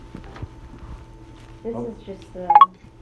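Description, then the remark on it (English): A smartphone notification alert chimes, a short burst of bright electronic tones, with a second, louder rising chirp near the end over a low background hum. “That's my phone.”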